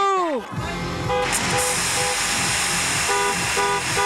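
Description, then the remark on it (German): Many car horns blare at once at a drive-in party where people celebrate in their cars, honking when the music's drop comes, in a dense, continuous chorus with overlapping steady tones starting and stopping, beneath a loud hissy wash of crowd noise and shouting. “Und wenn der Drop kommt, dann wird gehupt.”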